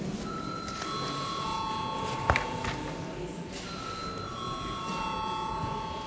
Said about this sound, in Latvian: Lūdzu, zvanu.